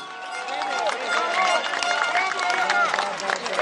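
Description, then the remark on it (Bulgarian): A large outdoor crowd of over 30,000 people on a square in Bulgaria cheers and claps steadily for several seconds at a May Day rally, welcoming politician Elena Yoncheva; a dense wash of many voices and hands at a fairly loud, even level. “Уважаеми гости, скъпи приятели, нека посрещнем с аплодисменти Елена Йончева!”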